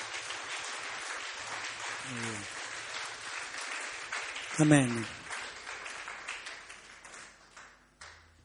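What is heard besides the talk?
audience applauding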